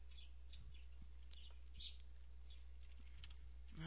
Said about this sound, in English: So... I'm typing right now.